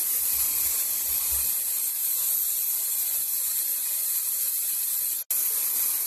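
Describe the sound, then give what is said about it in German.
A steady, loud hiss of an aerosol carnival hair spray being sprayed for about five seconds, then a brief cut-off, a short burst, and silence. “So Faschingsspray.”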